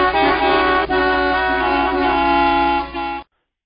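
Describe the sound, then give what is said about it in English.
A loud car horn blares in one long, steady blast for about three seconds, with a brief break early on and another near the end, then cuts off abruptly. No one speaks. “And don't forget to honk for impeachment.”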